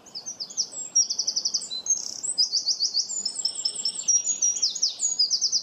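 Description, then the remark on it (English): A wren pours out a loud, energetic song of rapid high trills and chattering bursts, running continuously for several seconds without pause, with no voices present. “says that a wren reminds him of an opera diva giving her all in the last act, because they really do sing very loudly with great energy.”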